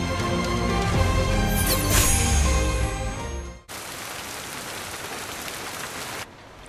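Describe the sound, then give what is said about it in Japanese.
Steady rain pours down in a dense, hissing wash, first beneath tonal music and then on its own for a few seconds before cutting off. “君が初めてうちに来た日もこんな雨の日だったな。”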